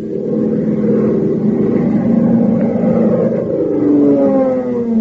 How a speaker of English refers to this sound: Fellas and girls, doesn't the roar of Hop Harrigan's plane make you want to learn to fly? Doesn't it make your fingers itch to get hold of that joystick and feel the thrilling response of the ship to the controls?